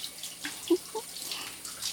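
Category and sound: household object, shower water running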